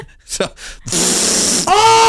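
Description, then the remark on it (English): A voice imitates a fart: a couple of short breathy puffs, then a loud, sustained buzzy raspberry that shifts into a higher, steady squealing tone at the end. “Why don't you show us fart again?”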